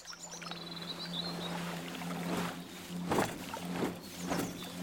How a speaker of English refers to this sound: Some people are riding on boats on the lake, and it's clear they're really having fun.